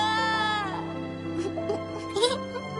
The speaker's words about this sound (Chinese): 此时隔壁房间传来小男孩的哭声。